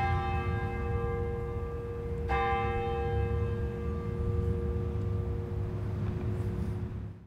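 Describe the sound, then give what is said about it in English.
The bell in the clock tower of a Romanesque-style courthouse rings with a deep, sustained hum. It is struck once more partway through, so its bright overtones swell again before slowly fading over a low background rumble. “And as is typical of this period, there's this great clock tower on this building, and that's a feature that you'll find in other courthouses around the metropolitan area.”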